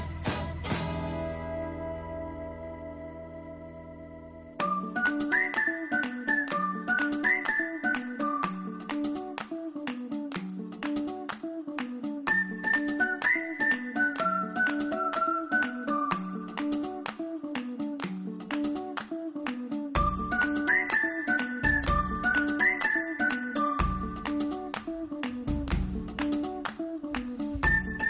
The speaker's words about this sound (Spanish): Yo debo ser ya como el perro de Pablo Jalipio, pero oigo esta música y me da hambre.